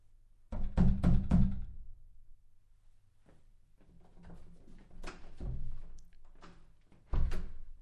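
Knocking on a wooden door, a quick cluster of loud knocks at the start, then softer scattered taps and thuds, ending with another firm knock.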